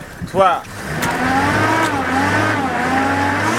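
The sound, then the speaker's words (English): A Land Cruiser 4x4 stuck in mud revs hard and steadily, a loud, droning whine that rises and holds as the vehicle fails to budge, with a brief shout near the start. “But the Land Cruiser wouldn't budge.”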